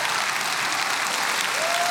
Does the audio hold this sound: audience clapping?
yes